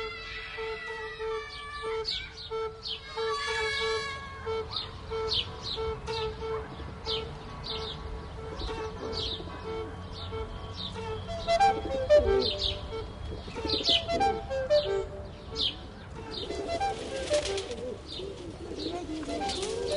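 Many small birds, sparrows, chirp and tweet busily while pigeons coo underneath as they are being fed, a dense, continuous flock chatter with no clear pauses, livelier toward the end.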